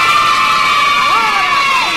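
A big crowd of children shouts back "¡Bien!" together in reply to a host asking how they are, a loud, sustained shout, their high voices blending into one continuous roar.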